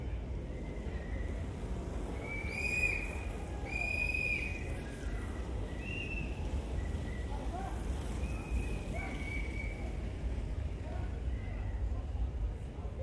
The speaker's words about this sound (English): As people pass by blowing whistles for us and generally making a fun nuisance of themselves, the atmosphere here is rather fun. Just like that. Which sounds like someone's bad old Nokia in a whistling form.